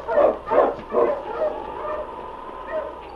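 Sled dogs of a team that includes King and Husky bark three times in quick, rhythmic succession, loud and mid-pitched, then trail off into softer whining and yelps with no one speaking.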